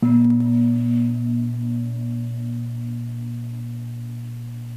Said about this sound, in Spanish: Cuando suena el gong, estamos presentes en las pausas también. Estamos allá.